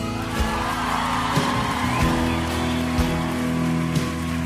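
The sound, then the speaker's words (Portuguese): An audience applauding Jesus during worship in a dense, steady wash of clapping that holds for several seconds, over sustained musical tones with a few low thumps, and no voices standing out. “Pode aplaudir Jesus.”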